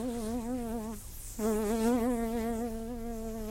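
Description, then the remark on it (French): A fly buzzes in a steady, wavering drone as it approaches a man, briefly cutting out for a moment before resuming just as loud. No voices are heard. “Il ne peut s'empêcher de bouger quand la mouche s'approche de lui.”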